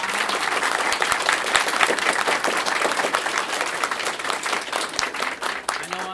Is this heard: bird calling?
no